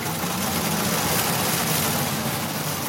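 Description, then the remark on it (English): A small solar-powered, two-wheeled, walk-behind tractor designed by engineers at Loughborough University runs steadily. Its motor gives a constant low hum beneath a broad mechanical whir, with no pauses or changes in pace throughout. “This is Aftrack, a solar-powered tractor designed by engineers at Loughborough University.”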